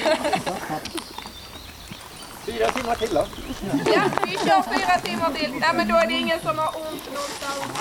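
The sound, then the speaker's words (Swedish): Icelandic horses walk at a slow walking pace on a horseback ride, with steady, soft clip-clopping hooves beneath voices talking and laughing, the hoofbeats sitting lower in the mix than the conversation. “Så det är skritt som gäller och efter en timmes ridtur blir det halt för att kolla läget.”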